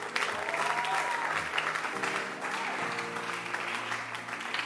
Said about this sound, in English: Clap your hands